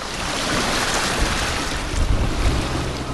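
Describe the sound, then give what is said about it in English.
A large diesel-powered pump roars loudly and steadily near a main intersection in flooded Spring Green, draining floodwater. The rushing wash of cars sloshing through frothy standing water blends into the constant din. No one speaks. “Near a main intersection, a large diesel-powered pump roars away as cars slosh through the frothy water.”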